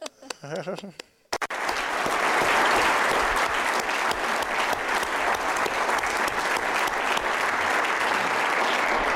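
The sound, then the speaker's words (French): A brief stretch of speech gives way abruptly to sustained, loud applause from a conference audience, a dense steady wash of many hands clapping that continues evenly to the end. “J'ai pensé, j'aimerais maintenant le dire, de la part de nous tous, et que nous devrions de leur donner donc un applaudissement complet maintenant.”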